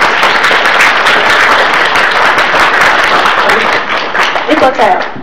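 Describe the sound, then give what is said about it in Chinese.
A crowd applauds steadily and loudly for about five seconds in tribute to a speaker's mother, a dense wash of many hands clapping, with a faint voice surfacing briefly near the end as it starts to thin. “所以請大家在這裡、幫我拍拍和媽咪、鼓掌去對、媽媽的敬意。”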